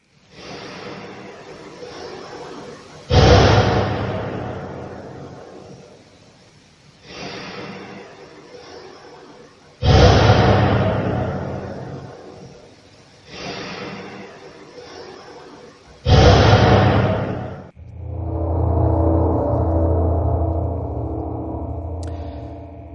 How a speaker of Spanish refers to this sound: Aquí estamos casi seguros de que es un disparo, pero bueno, también dejamos un poco la puerta abierta si es un golpe.